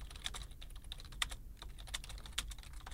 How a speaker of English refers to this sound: He's not doing anything. He's just typing.